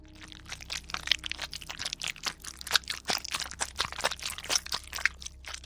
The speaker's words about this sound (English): The sound of someone chewing flesh. I looked around to see if anyone else in the group was feasting on the delicacy with gusto. That was not the case. I focused on the source of the sound and determined that it was certainly coming from behind me.